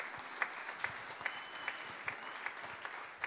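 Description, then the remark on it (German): A crowd applauds steadily for the children's ministry helpers at a church gathering, a dense wash of many hands clapping with a few sharper claps standing out at a regular rhythm, moderately loud and with no voices over it. “Das war euer Applaus und es werden weitere folgen.”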